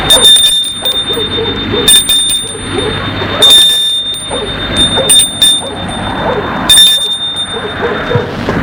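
A farm gate bell rings in bright, high-pitched bursts, about five times at a steady pace roughly every second and a half, over a continuous low rumble of background noise.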